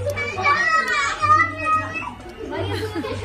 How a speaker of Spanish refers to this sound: El drama empieza ahora. Se escuchan gritos.